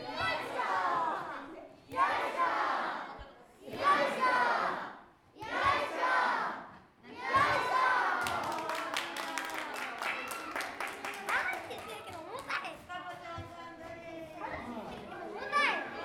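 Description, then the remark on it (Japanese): A group of children pound rice cakes, chanting together in a steady rhythm, one loud call every couple of seconds with each strike, followed by scattered clapping and lively crowd chatter. “子供たちがつきます。”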